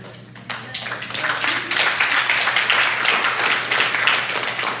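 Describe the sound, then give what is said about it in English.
An audience claps steadily, a dense crackle of many hands that swells after the first half second and holds at a fairly loud, even level throughout. “All right, I actually said it better than that clapping just gave me, okay?”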